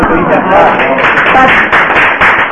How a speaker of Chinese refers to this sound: 今天大家鼓掌了吗？